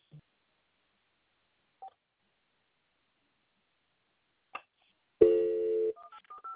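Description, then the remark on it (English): A few isolated soft blips over near-silence, then a sustained electronic tone and a quick run of short telephone keypad beeps at the end as someone dials an outbound phone call, clear, with no talking. “I'm going to try to go ahead and make a phone call out, but you can stay on the line for that.”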